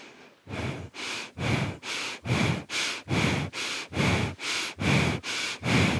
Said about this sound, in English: go ahead at your own pace. And do it for about 1 minute. This is going to ignite the cauldron within you. Go ahead. In and out through the nose. Belly breathing. Right, the very lower part of your belly.